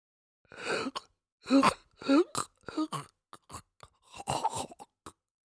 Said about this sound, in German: Es ist ein Körper, groß und breit, und er atmet. Er lebt, er atmet noch, aber es ist mehr ein Röcheln.